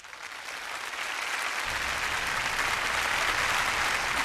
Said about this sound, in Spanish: El público aplaude a los virtuosos